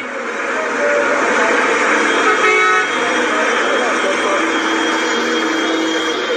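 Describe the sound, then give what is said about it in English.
A dense, steady roar of busy, chaotic street traffic in Lagos, Nigeria, with a short horn blast cutting through near the middle and indistinct voices mixed into the din. “The traffic was always chaotic, but I loved it.”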